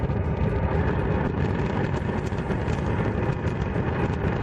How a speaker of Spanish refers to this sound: Quitando los 13 últimos días, que es el tiempo que el volcán de Cumbre Vieja lleva en calma, los palmeros han estado en vilo escuchando prácticamente a todas horas un rugido como este.